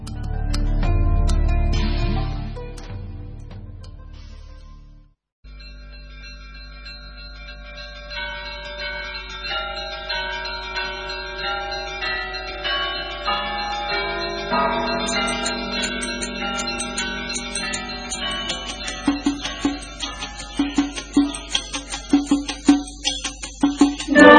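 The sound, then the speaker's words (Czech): A newly consecrated church bell in Korbovo, made by the Popović workshop from Belgrade, rings with sustained, shimmering tones that build steadily louder, the strikes growing denser and more insistent toward the end, after a brief rumbling opening and short pause. “Vladika je potom u sasluženje arhijerejskog namestnika Ključkog, nadležnog paroha i arhidžakona Ilije, osvetio novo zvono u Korbovu, koje je izradila radionica Popović iz Beograda.”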